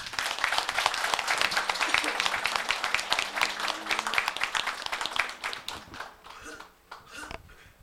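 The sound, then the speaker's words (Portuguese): An audience applauds the newly sworn-in mayor of the municipality of Itaúna do Sul in a dense, steady burst of many hands clapping together, holding strong for several seconds before thinning out and tapering into scattered claps at the end. “Solicito a todos, mais uma vez, uma salva de palmas.”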